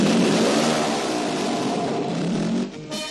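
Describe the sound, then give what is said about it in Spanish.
A motorcycle engine revs loudly and steadily in a 1975 television advert for Licor 43 showing young people riding motorbikes without helmets, its rising whine filling the whole stretch before briefly dropping off and surging again at the end, with no voices. “Un anuncio de Licor 43 del año 75 que mostraba a jóvenes montando en moto y sin casco, algo absolutamente impensable ahora en la tele.”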